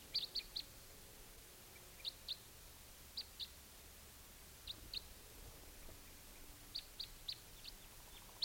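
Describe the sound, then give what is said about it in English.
Type 2 crossbill calls from at least two birds in the morning: short, sharp, high-pitched chips given in quick pairs and threes, repeating every second or so over a faint steady hiss, with no voices. “Crossbill's coming.”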